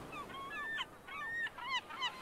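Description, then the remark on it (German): Birds call repeatedly in quick, overlapping bursts, a series of bright, nasal, honking cries at moderate volume over a soft outdoor background, with no voices, on an island in warm air. “Die Vögel, die ihr emsiges Treiben mit Gezwitscher untermalen.”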